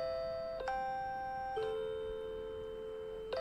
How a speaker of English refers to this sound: This is JR, right? Yeah, this is at train stations. It's actually the chime to help blind people find the stairs.